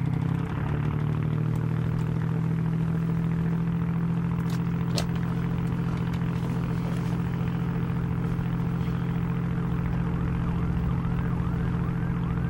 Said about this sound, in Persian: از شیشه شکسته در اتاق ناخدا رو باز میکنه. میاد تو. دکمه ها رو میزنه. لنج روشن میشه.